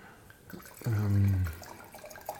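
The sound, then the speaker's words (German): White wine at 9 degrees glugs out of a bottle into a glass in one short, hollow, gurgling pour lasting about half a second, fairly loud against a quiet background. “Blubbert mit 9 Grad ins Glas.”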